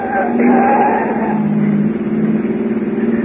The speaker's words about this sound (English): Turn right at the next corner. A car's been tailing us for the last 5 minutes.